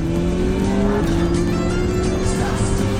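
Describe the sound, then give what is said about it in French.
A red car's engine roars loudly and continuously as it catches up from behind, its steady droning pitch creeping slightly upward, with no voices present. “Il y a une voiture rouge qui nous rattrape!”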